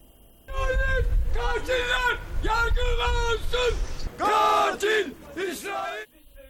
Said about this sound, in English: People have poured out into the streets of the Turkish city of Istanbul to protest against Israeli President Isaac Herzog's visit to the country.